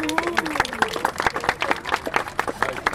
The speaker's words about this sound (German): Aber ansonsten bin ich erstmal happy, dass ihr alle hier seid. Erstmal Applaus für euch.